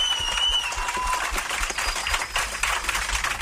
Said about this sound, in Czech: Tak myslím si, že i ostatní vám zatleskají, že nemusíte být zklamaný, že máte ještě před sebou velkou budoucnost.